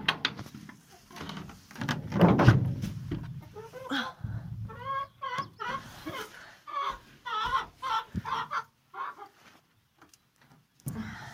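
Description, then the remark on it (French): Hens cluck and chatter in a series of short, rhythmic calls, with a louder rooster-like squawk near the start and some scuffling and knocking sounds in between, as the henhouse window and nest boxes are opened and the hens come out on a sunny morning. “Voilà, les poules sont sorties.”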